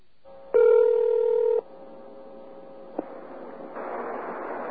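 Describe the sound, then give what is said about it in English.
A phone call-back attempt to a payphone using *69: a loud, buzzy telephone tone lasts about a second, then a faint steady line hum, a sharp click, and rising line hiss. No one speaks. “This is what happened when we tried calling back that payphone using *69.”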